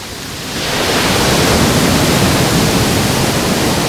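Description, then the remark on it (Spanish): Strong ocean waves at Playa de la Charca, heard from well back from the water, produce a dense, steady roar of surf that swells in over the first half second and then holds loud and continuous, with no voices. “Así suena hoy la playa de la Charca.”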